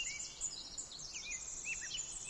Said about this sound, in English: A bird sings in the forest. That is not a sound directed against the silence. It is the bright glance falling from the eye of silence itself onto the forest.